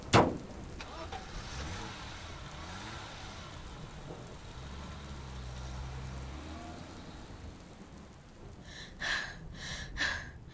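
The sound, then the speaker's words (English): A car engine rumbles steadily after a sharp thump at the start, its low hum rising and falling, followed near the end by a few short, bright breathy bursts. “Get the car.”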